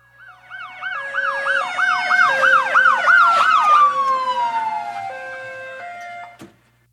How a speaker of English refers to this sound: At that moment, another police car arrived and two officers jumped out of it.